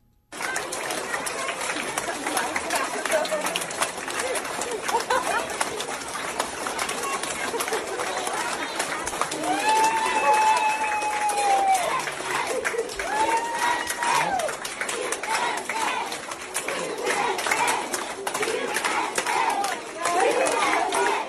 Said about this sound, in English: So they lined the halls and gave her, you know, applause, and that's she started awesome. Chanting USA, which I don't know if is allowed in too many K through 12 systems anymore these days.